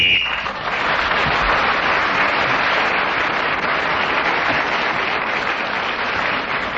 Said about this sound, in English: Barry Cryer took over the subject and cleverly kept going until Ian Messiter blew his whistle, which tells us that 60 seconds is up, and whoever is speaking at that moment gains an extra point.